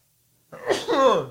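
sneeze

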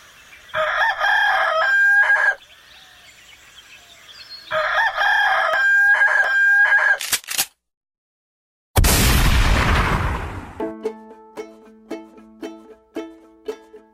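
rooster crowing

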